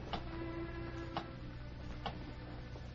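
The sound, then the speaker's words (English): A big clock ticks slowly and steadily, three distinct ticks about a second apart, each fairly soft, over a constant low mechanical hum with no voices. “The third man, still wearing the white apron of a bartender, looked nervously from the bedroom door to the big clock.”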